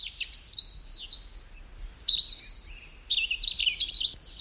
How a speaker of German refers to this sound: Leute, wir gönnen uns jetzt ein bisschen Vogelgezwitscher.